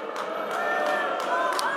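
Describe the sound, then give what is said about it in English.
A crowd boos loudly and steadily at a candidate on stage attacking Donald Trump, a dense wall of low, drawn-out voices holding for the whole stretch without letting up. “And Scott, you can hear the booing there.”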